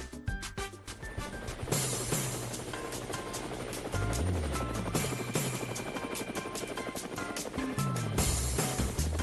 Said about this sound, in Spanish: Bueno, amigos de Cuba, regresamos a Levántate Cuba y por supuesto las aspas del helicóptero nos indican que vamos a viajar y por supuesto vamos a hacer un viaje